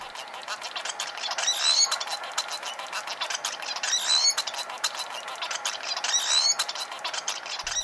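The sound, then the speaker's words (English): A munia's song: three brief bursts of thin, high, squeaky notes, evenly spaced, rising over a steady scratchy hiss of background noise. No voices. “Let's go with the munia first.”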